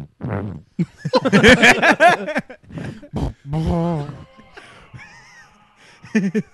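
A string of fart noises from a man's butt: buzzy, wavering bursts of varying length, some squeaky and drawn out, others short and loud, with brief gaps between them.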